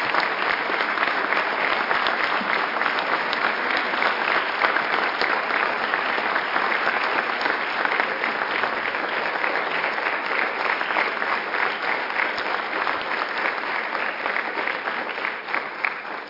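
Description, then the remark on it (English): A sustained round of audience applause for the assembled legislative administration staff, dense and steady clapping from many hands for about sixteen seconds before tapering slightly at the end. “legislative administration, how about a big round of applause as they are all assembled here for all the great work that they do.”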